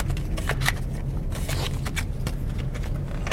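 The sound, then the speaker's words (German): A chip keycard, used for the cabin and all payments on board a ship, slides into the lock of the mahogany wooden door of cabin 8082 on deck 8, producing a rapid series of short plastic clicks and scrapes over a steady low hum, with no voices. “Und jetzt stecke ich das hier so rein.”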